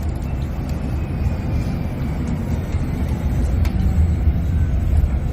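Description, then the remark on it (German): Steady low rumble of a quiet electric city bus driving, with soft road and tyre noise and a faint high whine, continuous, no voices. “Und wer mal hören möchte, wie leise der Bus ist, bekommt jetzt noch eine kleine Hörprobe.”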